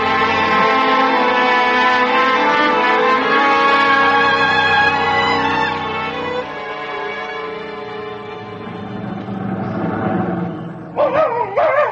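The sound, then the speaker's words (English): A dog named Bate barks loudly, its calls drawn out into long, wavering howl-like tones that carry on without a break, ending in a few sharper yelps. “You can stop barking.”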